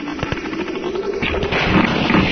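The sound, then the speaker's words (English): Rapid bursts of video game gunfire from an enemy helicopter shooting at the player crackle over a steady low rotor drone, the shots coming in quick uneven rattles that grow denser and louder toward the end. No one speaks. “Okay, there was another helicopter which shot me.”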